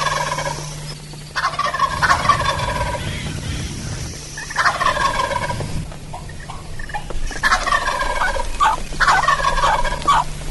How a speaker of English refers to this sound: This gobbler's not 50, 60 yards from me in the tree, and I got a big tree in front of me.